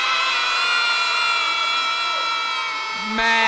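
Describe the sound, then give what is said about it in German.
An audience bleats together like sheep, a loud, sustained chorus of many voices holding a buzzing "meh" that shifts in pitch near the end. “Und alle dazu noch ein kräftiges Mäh.”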